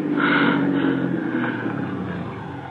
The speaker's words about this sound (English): Listen. Car's coming.